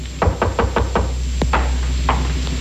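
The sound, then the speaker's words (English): Knocking on a door: five quick, evenly spaced raps, then a few louder, sharper knocks after a short pause, with no one talking. “I went upstairs, opened the bottle, and waited for your knock on my door, Commodore.”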